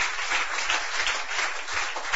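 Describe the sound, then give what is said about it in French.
A church audience applauds steadily for God, many hands clapping at once into a dense, continuous wash of bright noise with no pauses for about two seconds. “Applaudis, bon Dieu, vraiment, mes frères et sœurs.”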